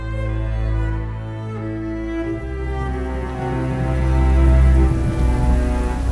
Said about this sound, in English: Leela's skin prickled with thick, heavy drops of rain as they walked down the street.